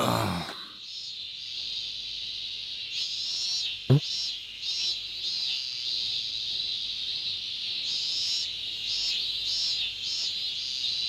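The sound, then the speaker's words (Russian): Loud, steady cicada drone fills the air, a dense high-pitched buzz that swells and pulses in waves, with a single sharp knock partway through. “Сегодня цикады такие громкие.”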